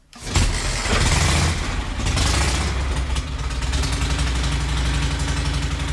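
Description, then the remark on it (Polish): An old pre-war Polish-made motorcycle engine kicks into life, then settles into a steady, loud running throb with rapid firing pulses and slight revving, no voices. “jest pozytywnie zakręcony na punkcie przedwojennych motocykli, szczególnie tych polskiej produkcji.”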